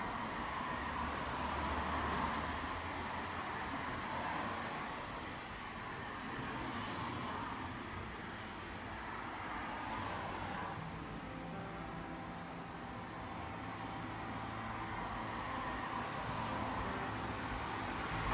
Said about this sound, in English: I walk outside and all I can hear is the wind and the hum of distant cars, and I feel peaceful.